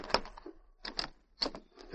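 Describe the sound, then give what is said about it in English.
Knocking at the door of a ranch house at dawn: four sharp, woody bursts of raps spaced unevenly over two seconds, moderately loud, with no voices. “Dawn was breaking when Jonathan Ashland was awakened by someone knocking at the door of his ranch house.”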